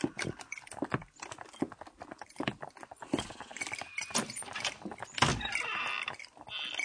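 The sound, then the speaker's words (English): Horse hooves clip-clop in a steady, uneven rhythm of sharp knocks, moderately loud, as a rider sets out with a horse, with some scraping and rustling noises mixed in and no voices. “You set out with your horse.”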